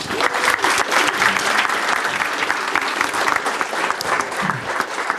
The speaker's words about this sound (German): das ist, glaube ich, einen kleinen Applaus wert.